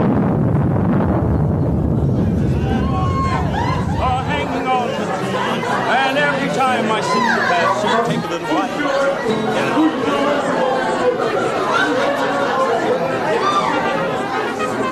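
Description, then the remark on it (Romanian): A dense, lively crowd celebrating in the street chatters and calls out all at once, a continuous babble of many voices, with a low rumbling roar underneath during the first few seconds. “Ia uite car cum mai petrece lumea.”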